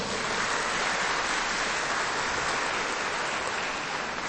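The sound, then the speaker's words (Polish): Warm, sustained applause from a crowd at a children's Rosary Circles gathering in the parish of St. Padre Pio in Gdańsk, for TV Trwam viewers and Radio Maryja listeners: a dense steady clatter of many clapping hands that holds at an even loudness throughout, with no voices over it. “Brawa dla wszystkich widzów i słuchaczy, gorące!”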